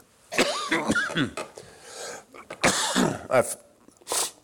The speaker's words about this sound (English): Excuse me. It's drainage. It starts draining, I start coughing.